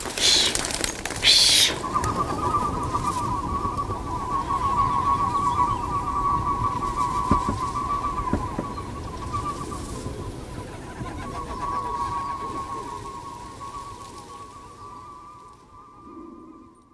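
A sustained, wavering whistle tone drifts overhead from pigeons flying with whistles attached, swelling and fading over a rumbling outdoor background with a brief rustle at the start.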